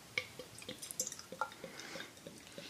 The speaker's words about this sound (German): ich gieße mal ein. Gieß ein.